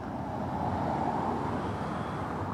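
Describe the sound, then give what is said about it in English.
Steady roar of busy road traffic in Newark with heavy trucks serving the port of New York and New Jersey rumbling past, a dense continuous low-frequency drone filling the scene at moderate volume, no voices. “Most of the trucks that come to Newark serve the port of New York and New Jersey.”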